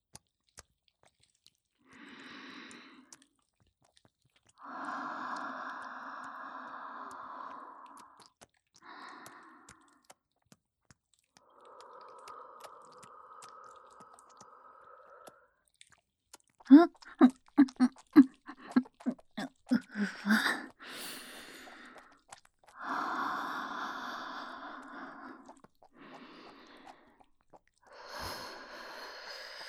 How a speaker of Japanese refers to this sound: 吐息を吹きかけられて興奮する趣味、初めて聞きました。